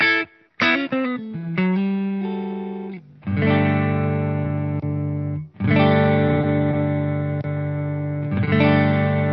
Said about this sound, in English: Now, the boost switch is just making everything sound a little bit more pushed. I personally really like that just in all the time. Let's the amp break up just a little bit, but also just kind of spreads things out, and it does.